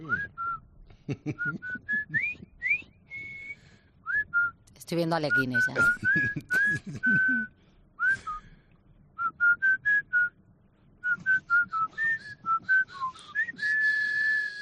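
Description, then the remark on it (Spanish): Someone whistles a brisk march melody, the theme of the famous bridge from the River Kwai film, in clear, bright phrases of short notes. The whistling pauses briefly while a voice talks over the middle, then picks the tune back up. “Aquí os voy a dar el silbido de la canción de ese famoso puente.”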